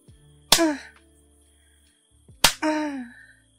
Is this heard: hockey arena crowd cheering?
no